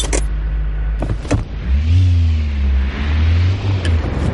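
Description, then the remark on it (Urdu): The engine of a Volvo Drive-E car with three turbochargers producing 450 horsepower hums low and steady, its pitch rising into a rev and easing back, with a few sharp mechanical clicks early on and no one speaking. “Volvo drive ای نامی کار میں ایسے تین تین ٹربو چارجر ہیں اور اس کے انجن کو 450 ہارس پاور کی طاقت دیتے ہیں.”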